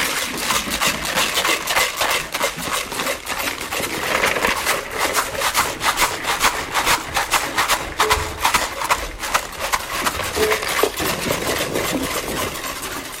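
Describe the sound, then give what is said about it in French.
Jars filled with rice are shaken steadily to make music, making a loud, dense, hissing rattle of countless tiny grains with quick rhythmic pulses that continue throughout without pause. “On va secouer. Pour faire de la musique. On a mis du riz dans les pots”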